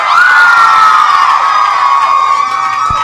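A crowd screams loudly and continuously, a dense wall of high-pitched shrieks and cheering holding steady for about three seconds before easing slightly at the end.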